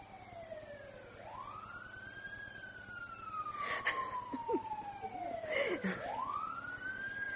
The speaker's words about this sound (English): I think the cat's at the door. I think so. It could be the siren, but I thought I heard him.